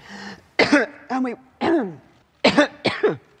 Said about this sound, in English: shows what good the Chancellor's cough suite is. The sound of the British Prime Minister Theresa May supposedly delivering a speech at her party's annual conference to a triumphant applause, but instead she endured probably the worst bout